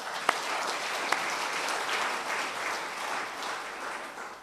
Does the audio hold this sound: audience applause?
yes